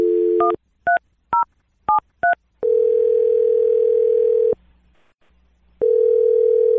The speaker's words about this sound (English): what I'm going to do is I'm going to dial the phone number right now